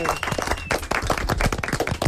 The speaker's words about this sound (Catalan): Fort aplaudiment, molt bé.